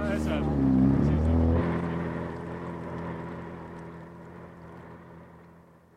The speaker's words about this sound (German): bis der junge Mann mit dem eleganten Motorboot das Segelschiff anschleppte